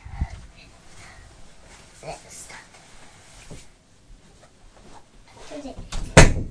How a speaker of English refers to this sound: Should we shut the door?